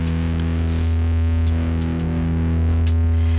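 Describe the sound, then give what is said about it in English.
An electric guitar played through a warm 808 overdrive pedal, thick sustained chords ringing loudly and continuously with a few fresh pick strikes along the way, no voices. “Let's get the 808 back.”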